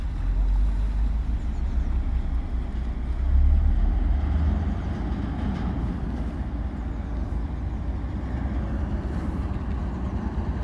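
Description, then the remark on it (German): An inland cargo ship moves slowly through the water of the Dortmund-Ems Canal toward the lock at Münster, which lifts ships over a 6-metre height difference. Its engine is a steady, deep droning rumble that holds evenly throughout, swelling slightly for a moment before settling back. “Auch ein Binnenschiff fährt gerade Richtung Schleuse, um die 6 Meter Höhenunterschied zu überwinden.”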